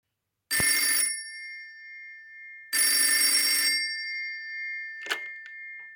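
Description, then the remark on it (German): A telephone in a hospital pediatric cardiology department rings twice in two loud, bright bursts of trilling bell, each about half a second long and a couple of seconds apart, followed by a brief click as the line is picked up. “Ich würde sagen, wir stellen jetzt noch einmal das Telefongespräch nach und Sie versuchen die Tipps und Tricks zum aktiven Zuhören anzuwenden.”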